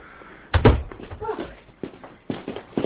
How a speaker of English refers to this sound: Oh, could you close the door, please? I've got flour on my fingers.